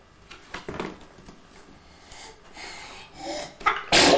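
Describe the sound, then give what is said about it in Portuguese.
A sneeze bursts out near the end, preceded by a sharp intake of breath and some soft rustling and breathy sounds. “Santinho.”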